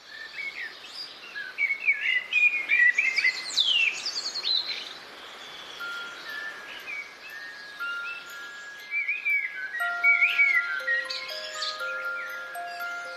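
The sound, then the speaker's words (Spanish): A lively chorus of birds chirping and calling, with bright, rapid trills and tweets overlapping throughout, joined later by long, steady whistled notes. No one speaks. “A veces algunas de las aves más comunes o que más acostumbrados estamos a ver y escuchar nos hacen felices.”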